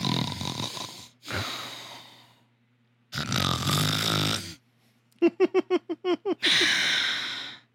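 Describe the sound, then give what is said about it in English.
A voice imitates loud snoring and heavy sleep breathing, with long rasping inhales and exhales, then a quick string of sharp snorting puffs before one more drawn-out snore. “There's one time you did one of those heavy breaths in my face because I was just laying there being like, he's so cute when he sleep.”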